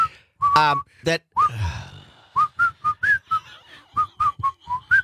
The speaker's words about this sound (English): At the end, I was just going to just say, it's funny you can't sing, but you can whistle. And then you hit that last note. No, you flattened out big time.